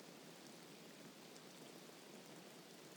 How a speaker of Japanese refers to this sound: 雨音ってリラックスできていいよね。雨の中歩くと濡れるし、靴ぐちょぐちょになるし、寒くなっちゃうけど。でも音だけはとっても綺麗。